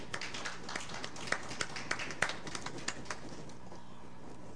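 A round of applause: dense, irregular clapping with sharp crisp claps standing out, fairly soft overall, thinning and fading away during the last second.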